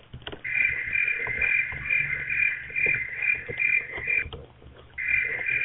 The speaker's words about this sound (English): I think the crickets are enjoying the broadcast more than I am.